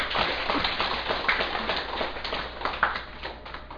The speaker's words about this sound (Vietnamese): cũng phải nói rằng những Phật tử như quý Phật tử hiện có mặt ở đây là người có đầy đủ phước đức nhân duyên với chùa Dược Sư, cho nên cũng phải nên vỗ cho một tràng pháo tay.